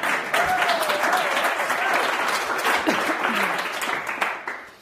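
Steady, dense applause from an audience, a continuous wash of many hands clapping for several seconds before fading at the end, with faint voices and a cheer mixed in.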